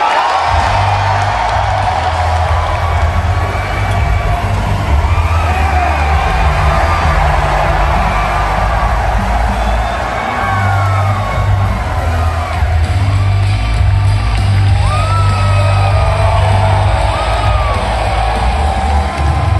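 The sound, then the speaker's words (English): A large crowd cheers and shouts in a sustained, loud roar, welcoming Alex Jones of InfoWars, with scattered whoops and yells rising above a dense wash of voices and a low rumble underneath throughout. “And if you're an InfoWars fan, if you've been following the show for a while, you really should have been here to see the crowd welcome Alex.”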